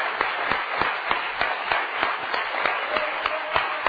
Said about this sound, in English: Let's give him a rousing hand clap tonight.